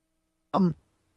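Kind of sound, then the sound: human body sound, cough and throat clearing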